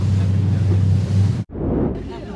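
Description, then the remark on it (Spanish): A motorboat engine drones loudly beneath rushing wind and water as the boat accelerates on the sea at Paracas, taking visitors to the Ballestas Islands. The engine cuts out for a split second, then returns as a broad roar of spray and hull noise. “Están acelerando la lancha, a ver cómo terminamos.”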